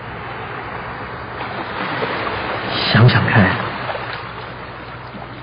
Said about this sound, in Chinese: 你好像可以听到海浪拍打到海边的沙上，随着这些海浪拍打到海边，你几乎可以闻到它带来的那种干净、清新、淡淡的海水咸味。